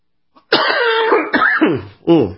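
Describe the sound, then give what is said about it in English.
A loud cough with a rough, drawn-out throat-clearing rasp lasting over a second, followed by a brief pause and one shorter cough. No one speaks. “That's not Zika. That's just a cough from Dublin.”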